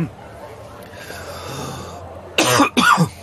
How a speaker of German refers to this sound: Ich glaube, ich muss schon husten, weil so viel geraucht wird in der Bar.